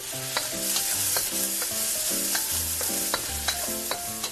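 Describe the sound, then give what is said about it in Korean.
Bite-sized sausage, onion, bell pepper and minced garlic sizzle steadily in a hot oiled pan, with a constant frying hiss and irregular clacks of a utensil stirring and scraping the pan, with no one talking. “팬에 기름을 두르고 소시지와 채소, 다진 마늘을 넣어 볶는다.”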